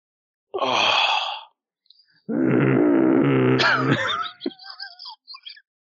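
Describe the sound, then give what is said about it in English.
An ent whistle blown in two long, breathy, groaning blasts with a rough, moaning tone, followed by a few short, higher squeaky toots trailing off. No one speaks. “I'm playing an ent whistle.”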